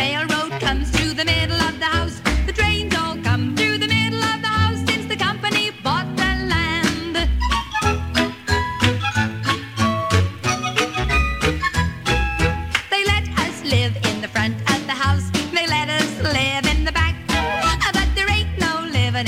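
A song spins on an old 78 record, a full band with a steady driving beat and a melodic vocal line, playing loud and continuous throughout with no talking over it.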